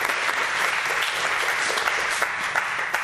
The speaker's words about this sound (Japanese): 彼女に拍手してあげて。拍手。はい、ありがとう。